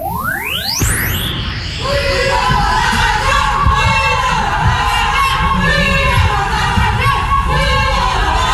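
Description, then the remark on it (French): A rising whoosh gives way to a loud, continuous crowd of about ten young women shouting and chanting together outdoors in front of a chalet, sustained and overlapping for several seconds. “Des gens, plutôt des filles, sont venus devant le chalet pour crier Bruno dans la radio.”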